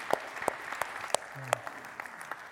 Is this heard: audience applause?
yes